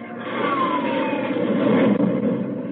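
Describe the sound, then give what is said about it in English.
An Air Force Sabre jet fighter roars past overhead about 1,000 feet up, a loud, steady rushing blast with a high whine that slides downward in pitch as it goes by. No voices. “An Air Force Sabre jet.”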